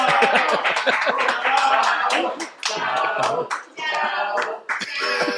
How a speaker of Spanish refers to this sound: ¡Aplausos, cabrón!